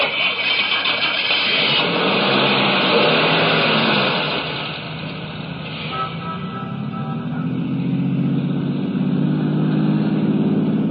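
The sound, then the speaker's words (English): A car engine turns over and catches, then settles into a steady hum that rises as the vehicle pulls away, a continuous mechanical drone with no voices. “Start your car. Head west of the highway and keep going until I tell you to stop.”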